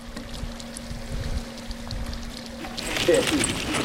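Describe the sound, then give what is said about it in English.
A steady low pump hum runs beneath faint trickling as water is pumped out from under a house to keep it from flooding, then water suddenly gushes out in a loud, splashing rush for the last second. “She has to pump the water from under her house every 15 minutes to keep it from flooding.”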